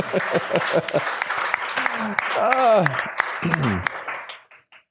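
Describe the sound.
A crowd claps steadily in a dense, crackling burst, with a few voices whooping and cheering over it, before the applause fades out near the end.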